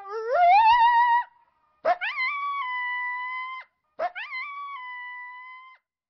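A dog lets out three long, mournful, anguished howls, each rising in pitch and then holding a steady wavering note, with short pauses between them. The howls are clear, with no other sound.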